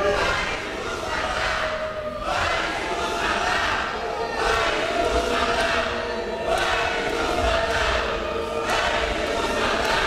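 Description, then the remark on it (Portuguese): A crowd of protesters, Black movement activists in a parliament plenary, boos and shouts without pause, interrupting a deputy's speech, many voices overlapping into a loud, sustained roar that swells and dips in rough waves, with no single voice standing out. “O deputado foi vaiado por manifestantes e o discurso foi interrompido por gritos de ativistas do movimento negro presentes no plenário.”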